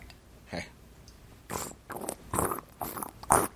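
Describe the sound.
A voice makes a series of wet, sputtering mouth noises imitating farts as Foley for a Dungeons & Dragons game, with about five short bursts that grow louder and more blustery toward the end.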